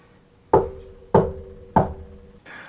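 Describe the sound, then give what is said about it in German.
Three firm knocks on a wooden surface, evenly spaced about half a second apart, each a sharp hollow thud with a short resonant ring, followed by quiet. No voices. “ich klopfe mit.”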